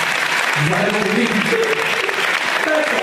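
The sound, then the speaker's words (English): A crowd applauds for the signs they brought in a dense, steady burst of clapping that holds loud for the whole stretch, with a few voices calling out faintly underneath. “Round of applause for all your signs.”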